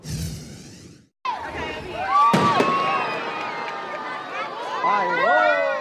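Fireworks at an outdoor show in Morrisville, in the Triangle: a sharp, loud bang bursts out amid a steady wash of crackling and whistling, with a crowd murmuring and cheering throughout.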